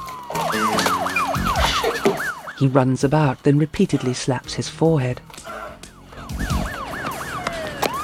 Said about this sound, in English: … sighs with relief hearing the sirens